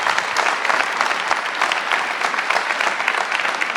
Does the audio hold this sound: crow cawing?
no